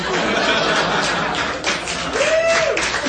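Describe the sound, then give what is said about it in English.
An audience claps in a dense, steady wash of applause, mixed with scattered laughter and chatter, while a short tonal whoop rises above the noise near the end. “That's an odd applause break, I'll give you that.”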